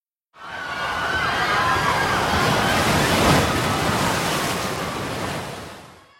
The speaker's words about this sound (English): Then, a big wave hits one boat and it overturns. The people fall into the water and disappear. The other boats continue, but soon the waves destroy them too.